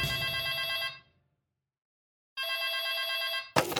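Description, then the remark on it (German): A telephone rings twice with a classic electric bell tone, each ring lasting about a second with a pause between, loud, followed by a brief click as if the receiver is lifted; a call from the Deutsche Bundespost. “Die Deutsche Bundespost ruft TÜMNET-Mitarbeiter Ron Vivier an.”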